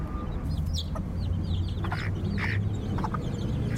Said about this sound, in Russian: Да, павлин, курочки. Курочки необычные, у нас и такие были дома бентамские. В деревне. Бентамские. Это бентамские декоративные куры.